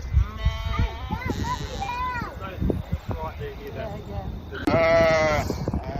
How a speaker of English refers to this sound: Oh, sheepies. Look.